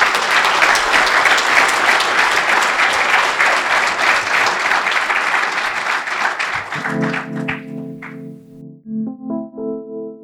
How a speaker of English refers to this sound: Please, a round of applause for everyone who shared a story.